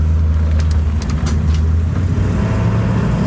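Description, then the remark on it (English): A steady, loud low rumble of road noise from inside a vehicle driving in heavy traffic toward Statesville on a Saturday of Thanksgiving weekend, with faint hiss and brief higher whooshes of passing traffic, continuous throughout and no talking. “And traffic today, for example, traffic is really heavy.”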